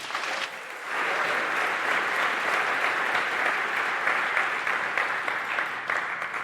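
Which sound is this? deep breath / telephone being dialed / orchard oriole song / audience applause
audience applause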